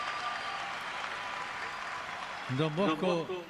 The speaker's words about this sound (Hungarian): Látom, vannak itt olyanok, akik szeretik Don Boscót. Tapsot nekik!